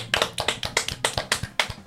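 Applause from an audience: a steady run of sharp, bright hand claps at a quick, fairly even rhythm, moderately loud, with no voices over it.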